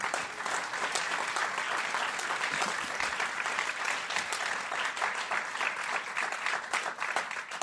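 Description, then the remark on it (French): An audience applauds the show's helpers and the hosting association Fadarel, a dense, even wash of many hands clapping at a sustained, fairly loud level with no voices standing out. “On peut les applaudir, un grand merci.”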